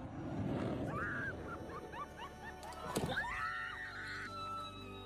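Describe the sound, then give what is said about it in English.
A crowd on a packed Pensacola beach lets out high, rising squeals and shrieks as a Navy Blue Angels fighter jet flies just feet overhead during an air show, over a steady rushing roar, with a sharp loud surge partway through before the excited cries continue. “To hear David Muir describe squeals of delight as screams of terror, masterful.”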